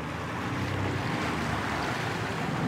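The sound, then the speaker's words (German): A floating kiosk raft, about 3 meters wide and 10 meters long, moves along the Havel river, with a steady, fairly loud rush of water wash and wind buffeting the microphone throughout. No one speaks. “Er schippert mit seinem schwimmenden Kiosk Riversnack über den Fluss und versorgt die Menschen auf und an der Havel mit Leckereien.”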